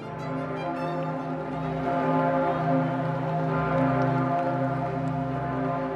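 The Pummerin, the great bell of St. Stephen's Cathedral (Stephansdom) in Vienna, weighing over 20,000 kilos, tolls with a deep, droning boom and rich ringing overtones on a Sunday morning as the Pope arrives, swelling louder after a couple of seconds and sustaining without pause. No one speaks.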